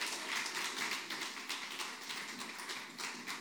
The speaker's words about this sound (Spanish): Vamos a estar de pie, por favor. ¿Qué tal si le damos un aplauso de alabanza al Señor?